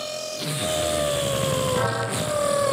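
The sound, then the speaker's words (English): A surgical power saw whines steadily during knee ligament surgery, its high motorized pitch drifting slightly as it cuts, loud throughout with a constant buzzing hum and no voices. “Can you hear that power saw?”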